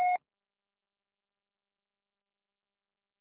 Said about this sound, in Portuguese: Sua chamada está sendo encaminhada para a caixa postal e estará sujeita à cobrança após o sinal. Deixe seu recado.